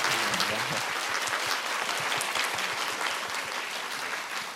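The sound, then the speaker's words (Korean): A crowd applauds steadily for several seconds in encouragement of a writer's future work, a dense, even wash of many hands clapping at a constant level with no voices standing out. “앞으로도 굉장히 좋은 작품 기대하면서 응원의 박수를 좀 부탁드릴게요.”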